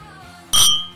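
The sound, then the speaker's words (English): A single bright clink of wine glasses of red wine touching in a toast, sharp, with a shimmering ring that fades over a fraction of a second against a quiet background. “We're going to try this together. Otherwise, it's just Will's response and me copying it. Okay, sorry. We're going to cheers it.”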